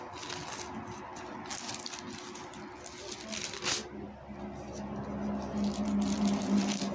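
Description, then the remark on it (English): A sheet of paper is unfolded, with crisp, irregular crinkling and rustling that keeps going for several seconds over a faint, steady background hum. “My paper's folded up, y'all. Okay. Let me unfold it.”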